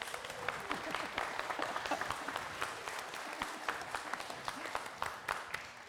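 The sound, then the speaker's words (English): A church audience claps steadily and continuously for everyone who took part in the service, a dense patter of overlapping hand claps, with a few faint voices mixed in under the applause. “So I think we should give everybody who took part in the service a round of applause.”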